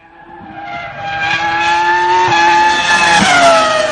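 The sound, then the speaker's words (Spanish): A 1950s racing car engine roars at high revs at the Jarama circuit during the Espíritu del Jarama event, its harsh whine swelling louder, with quick gear-change dips in pitch near the end. It is loud and continuous, with no talking. “pues este fin de semana se cerraba el espíritu del Jarama, en el circuito mítico del Jarama por los 50. ¿Cómo se llamaba ese coche”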